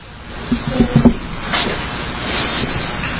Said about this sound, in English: You push your chair back.